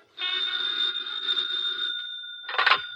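A telephone rings in one long, steady metallic trill lasting about two seconds, followed by a brief, rattling burst of ringing. It is fairly loud, with no voices.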